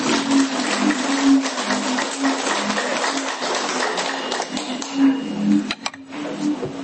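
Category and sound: crowd, audience applause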